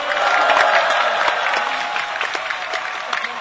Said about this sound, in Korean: 그래서 특별히 뜨거운 박수를 보내야 할 동지들입니다.